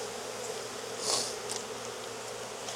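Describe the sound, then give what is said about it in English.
A dense, steady buzz of many honeybees swarming around an open hive, with a louder bee passing partway through; no voices are heard. “There's a lot of bees.”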